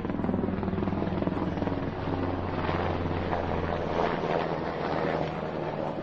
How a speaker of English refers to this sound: What is this now? That's menacing. The jackbooted helicopters. Jeez Louise. Wow. I don't even see. Oh, there it is. It's so loud.